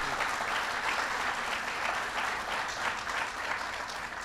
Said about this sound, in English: And Joe deserves a lot of credit for that, so give Joe Biden a big round of applause.